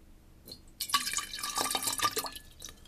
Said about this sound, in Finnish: Sitten mä laitan sen tämän karahvin päälle. Se voimistaa sitä pikkusen. Kyllä. Mutta nyt mä lisään siihen vähäsen vettä.